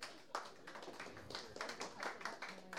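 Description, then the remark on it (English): A crowd at a Metro West open mic spontaneously applauds a regular performer, dense, overlapping claps keeping a steady, moderately loud wash of sharp hand slaps throughout. “And so I like the spontaneous applause.”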